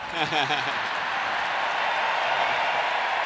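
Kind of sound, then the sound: crowd, audience applause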